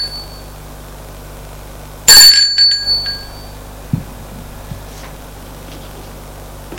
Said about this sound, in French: Il sonne à la porte.